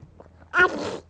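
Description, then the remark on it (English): A baby gives one short, breathy woof, imitating a dog's bark. It's fairly loud, following a brief stretch of faint, quiet background sound. “I've heard dog woofs from another baby.”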